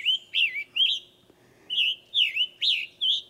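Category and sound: bird, scarlet tanager song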